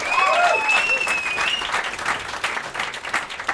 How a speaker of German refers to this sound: Das hat der Herr vorbereitet. Kleiner Applaus für den Herrn für den Redaktionsplan.